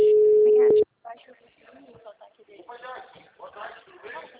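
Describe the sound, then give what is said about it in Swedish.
One loud, steady, mid-pitched ringback tone of an outgoing phone call to a woman sounds for under a second, then cuts off and a voice starts talking. “Jag ringde henne.”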